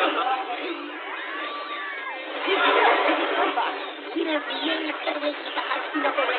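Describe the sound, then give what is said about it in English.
A panicking crowd heard in a played-back recording of the Spinnacle transmission: many voices shouting and clamoring over one another in a steady, dense din, with thin, muffled tone like a radio transmission and a louder surge midway. “Go back to the beginning of the transmission, but this time remove the sounds of the panicking crowd.”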